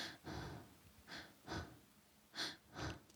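Quick, shallow breaths demonstrating very flat breathing, about five short airy puffs in a loose rhythm, each a faint hiss with a soft low thump, no talking.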